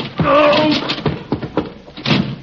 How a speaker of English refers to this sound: Door is stuck.